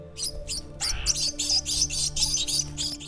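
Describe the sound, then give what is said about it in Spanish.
Birds chirp continuously in a botanical garden of dry tropical deciduous forest, a dense series of bright, high tweets repeating in quick bursts over a steady low background hum, with no one speaking. “es un pedacito de la selva baja caducifolia que nos permite pasear por un mundo maravilloso, que no solamente es el hogar de muchas plantas, sino también de muchas aves y animales pequeños como pájaros to, zorros plateados y zarigüeyas.”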